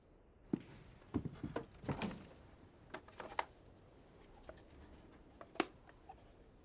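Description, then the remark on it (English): A door being closed quietly, with a scattering of sharp clicks and soft knocks from the handle and latch spread over several seconds, no voices. “Close the door, please.”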